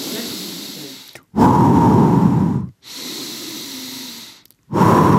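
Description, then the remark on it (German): Heavy, deliberate breathing: loud inhales alternating with softer exhales in a slow, steady rhythm, each breath separated by a brief pause, with no talking. “Atmen. Mit Atmung. Mit Beatmung. Atmen. Atmen.”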